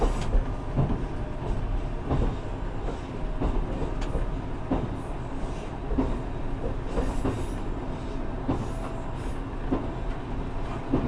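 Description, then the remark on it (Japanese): Steady low rumble of a train rolling along the rails, with faint rhythmic clicks from the wheels passing over track joints, heard from inside the carriage, as the train in Japan approaches Gotemba station, where the exit is on the right side, before stopping next at Susono. No one speaks. “The exit will be on the right side of the train.”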